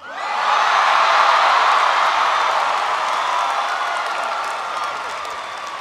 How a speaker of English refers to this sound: I thought I'd go for the cheap applause line to start things off.